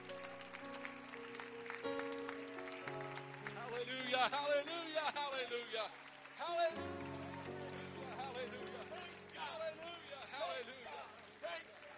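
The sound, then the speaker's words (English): An audience claps along steadily over sustained organ or keyboard chords, with a voice singing or exhorting on top and the clapping forming a dense, continuous wash throughout. “Would you clap your hands if you believe he's getting ready to do something?”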